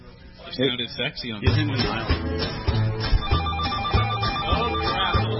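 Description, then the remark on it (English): A telephone ringing sound effect, marking the opening of phone lines for callers, rings over and over in a steady pattern of quick, loud, clear bursts. A voice speaks briefly just before the ringing starts. “We'll be opening the phone line, so here it is, and actually, I'll put the phone”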